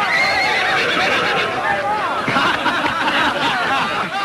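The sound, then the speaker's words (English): A mare named Bess whinnies and neighs in shrill, wavering bursts over the steady thud of her hooves as she chases a man around a corral, with indistinct voices murmuring underneath throughout. “The mare chases him around the corral.”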